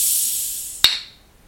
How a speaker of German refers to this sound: Warte mal, ich mache jetzt wie Thomas Gottschalk. Ich mache die Dose jetzt auf.